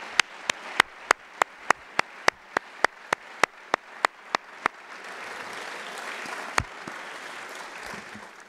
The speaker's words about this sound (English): So please join me in a round of applause